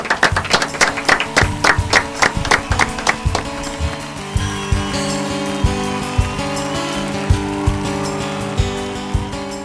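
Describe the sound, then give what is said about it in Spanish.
Quick, rhythmic, sharp clapping fills the first few seconds as applause ends a program, then fades as sustained music with a steady beat takes over for the rest. “Con un aplauso terminamos el programa.”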